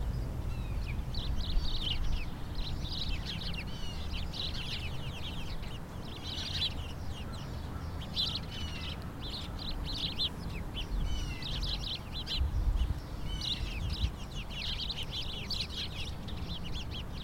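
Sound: birds chirping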